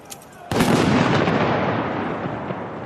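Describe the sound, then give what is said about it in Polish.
A single loud ceremonial cannon salute shot booms out after a brief quiet moment, followed by a long, rolling echo that slowly fades across an open outdoor space, fired at a Polish military ceremony marking the President of Poland taking command of the armed forces. “Salut armatni!”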